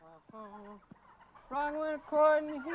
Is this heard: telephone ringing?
no